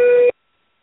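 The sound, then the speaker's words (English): A single steady electronic telephone tone from a caller's phone on the line, loud and sustained for about a third of a second before cutting off abruptly into silence, like a busy signal beep on a phone line. “I'm not sure whose phone is that, but hang on 1 second.”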